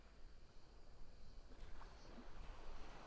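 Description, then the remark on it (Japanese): A soft, steady seaside ambience on a beach of gentle waves washing in with a low rumble of cold wind, quiet and continuous with no voices. “それとも海で少しゆっくりしていきますか？”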